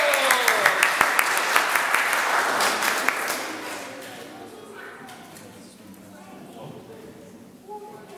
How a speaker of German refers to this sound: Ein ganz mutiger Applaus, Applaus!